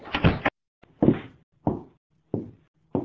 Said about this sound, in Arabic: اقفل الباب.